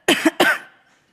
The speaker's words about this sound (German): Ich muss mich ganz kurz räuspern, bevor ich anfange.